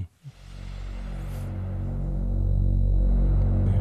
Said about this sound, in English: Definitely very a Moog classic one. Moog drone sound with some noise and added white noise to it and the typical buildup, the filter cut off.